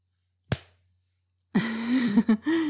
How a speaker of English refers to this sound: No, baby, you didn't make a noise. I just now realized how much I love slapping your face. You have such a gorgeous face for it. I couldn't help myself.